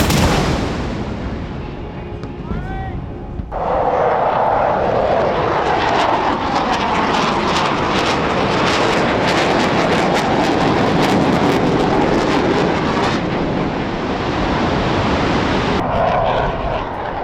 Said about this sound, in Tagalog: Isang 21-gun salute at paglipad sa ibabaw ng mga eroplano ay naganap para sa okasyon.